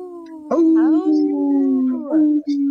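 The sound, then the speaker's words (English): Several voices let out sustained, wavering howls in imitation of wolves, loud, overlapping for a few seconds with a brief dip near the end. “Howling for wolves for future generations.”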